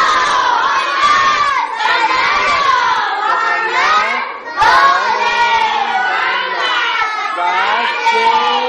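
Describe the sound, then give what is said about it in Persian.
A large group of children chants a salawat prayer loudly in unison for Imam Zaman, their high voices sustained in two long phrases separated by a brief pause, energetic. “اونایی که امام زمون رو دوست دارن یه صلوات بفرستن برای صلوات.”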